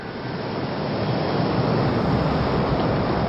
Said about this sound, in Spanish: Las aguas del mar se agitaban furiosas a cada paso de la criatura, mientras las costas de aquella población, por efecto de las olas, comenzaban a hundirse bajo las aguas.